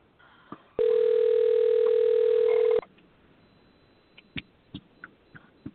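A phone's ringback tone sounds once: a loud, steady, mid-pitched buzz lasting about two seconds. Then near-silence follows with a few faint clicks and taps.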